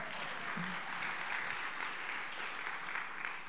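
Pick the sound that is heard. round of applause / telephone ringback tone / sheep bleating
round of applause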